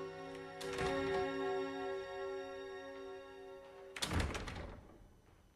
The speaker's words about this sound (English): A photographer snaps several shots of Worthing, and then a line of servants open all the doors along a corridor at the same time.